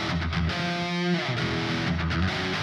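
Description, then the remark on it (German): A Telecaster electric guitar rings out sustained, overlapping chords and single notes, steady and fairly loud, with the dry signal on the left side and the reverb tail only on the right side. No voices. “Ja, und du hörst tatsächlich, auf der rechten Seite ist jetzt der Nachhall und auf der linken Seite ist das trockene Signal von unserer Gitarre.”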